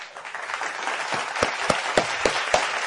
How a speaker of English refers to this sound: And before I kick off, I have to give another round of applause.